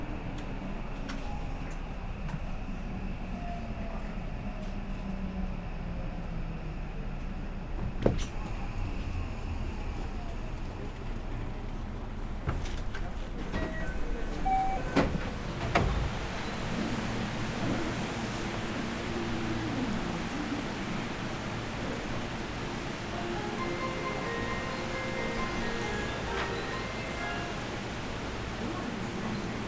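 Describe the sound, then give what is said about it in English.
Steady rumble of a subway train slowing into Noda Station, station number O13, with clanks and knocks midway and a brief sharp thud as the doors on the right side slide open, under continuous low mechanical noise. “We will soon be arriving at 野田 Station number O13. The doors on the right side will open.”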